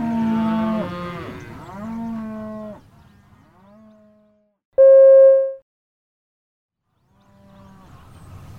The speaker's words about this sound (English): Look! Cows!